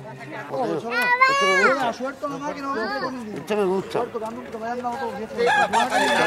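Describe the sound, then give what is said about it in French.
A fighting rooster crows loudly, a long wavering call, while children's voices chatter and call out around it. “Il a peur de mettre son coq contre le mien, là.”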